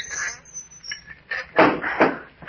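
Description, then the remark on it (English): A wooden trap door is lowered shut, with faint creaks and scrapes leading into two solid knocks as it settles. “Shall I close the trap door again?”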